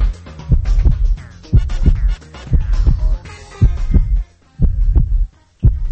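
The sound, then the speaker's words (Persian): A steady heartbeat of a human who is not in love thumps in heavy lub-dub pairs, repeating at a calm, even pace for several seconds, with a faint tonal hum lingering underneath. “اولیش تپش قلبه، یه صدای قلب یک انسان غیر عاشق رو شما گوش کنین ببینین.”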